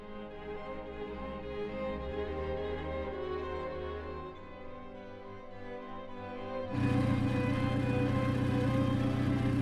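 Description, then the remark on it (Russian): A car drives steadily along a road, its engine humming at a low, even pitch, before the road and wind noise suddenly grows louder and rougher near the end. No one speaks. “А потом мы долго ехали на машине. Машина скользила по дороге, как мыло.”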